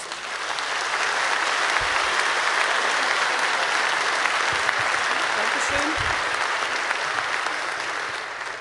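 Sustained applause from an audience welcoming a speaker to a talk titled 'Sachsen dreht frei', a dense, steady wash of many hands clapping, with no talking over it.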